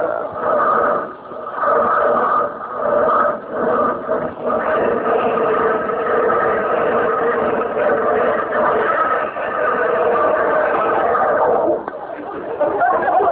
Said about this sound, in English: how'd you like the sound of that Stutz Bearcat engine under the hood there? You know what? You sound like the bear trying to claw its way out to me. Tell me this. How come it stalled like that?